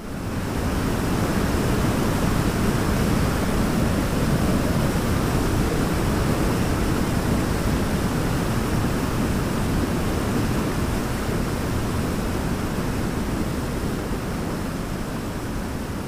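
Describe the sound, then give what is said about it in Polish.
A loud, steady roar of rushing water from the Iguazu waterfalls, a dense continuous wash of noise that holds unchanged for the whole stretch, with no voices. “Muszą Państwo pojechać nad wodospady Iguazu.”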